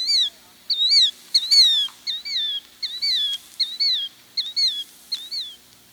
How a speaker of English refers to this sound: In the port terminal, hundreds of ring-billed gulls, known to most people as seagulls, are breeding.